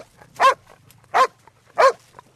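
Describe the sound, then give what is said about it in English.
A cadaver dog barks an alert three times in an evenly spaced series after picking up a scent, each bark loud and sharp, with quiet background between them and no voices. “That's a bark alert. Bibi, one of the other cadaver dogs, has picked up a scent.”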